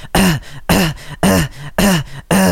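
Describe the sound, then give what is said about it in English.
Five punchy beatbox throat-bass hits in a steady rhythm, each a gritty, buzzing low vocal growl with a sharp attack, made like clearing the throat in a whisper tone; loud, with no talking. “A lot of beatboxers love to use throat bass.”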